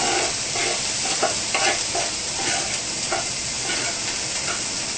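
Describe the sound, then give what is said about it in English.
Strawberry and apple pieces sizzle in hot oil, a dense, steady crackling hiss with small pops and faint stirring scrapes, continuous throughout with no voices. “The oil is already good. We put the strawberry and apple in there.”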